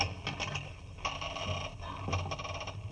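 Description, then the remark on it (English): A rusty door lock grinds as it turns, giving three rough metallic scraping bursts with ratchety clicks over a low hum, moderately loud and with no voices. “Confound it. This lock must be rusty. No, here it comes. Blast it. Did it have to make that noise?”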